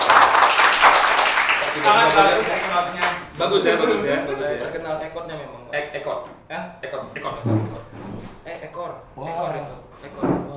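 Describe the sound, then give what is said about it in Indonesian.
An audience claps in a dense, steady burst for about three seconds. The applause then fades as people start talking, and faint clapping lingers under the voices. “Kita berikan tepuk tangan dulu, luar biasa sekali.”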